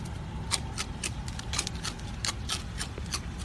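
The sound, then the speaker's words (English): Rapid, irregular crunching of a raccoon chewing Fruit Loops cereal, a steady run of sharp, crisp bites over a low rustling background, with no voices. “That was a raccoon eating Fruit Loops.”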